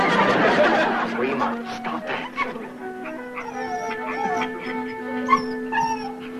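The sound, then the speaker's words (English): A dog whimpers and yips while scratching at a door, drawn-out high whines rising and falling with a few sharp little yelps mixed in, carrying on steadily with no one speaking. “that dog is just scratching that door to pieces.”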